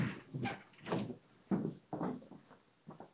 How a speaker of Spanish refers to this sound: Se me va a cerrar la puerta.